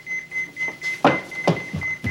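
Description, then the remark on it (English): A pager beeps, a thin, steady high-pitched electronic tone that holds throughout, with a few dull thuds and knocks breaking over it and no talking. “It's my beeper.”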